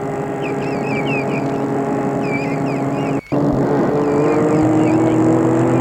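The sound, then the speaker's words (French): A large white convertible car on a road, its engine humming steadily and fairly loud, pitch climbing slightly as it approaches, with birds chirping in the background and a brief cut partway through. “Tout à coup, elle voit arriver sur la route une grande voiture blanche décapotable qui vient vers elle.”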